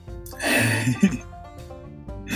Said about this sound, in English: I'm sorry for the burps, people, if you are listening.